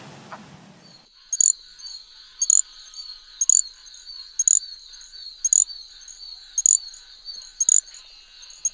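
A brief burst of low clucking from a wood frog at the start, then high, thin insect-like chirps from a little grass frog repeat about once a second in a steady rhythm over a faint continuous high buzz; frogs of Virginia.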